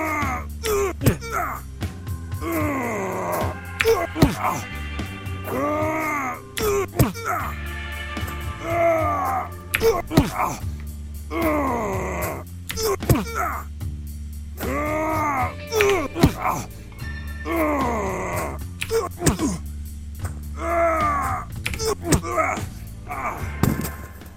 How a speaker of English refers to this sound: Punching fights.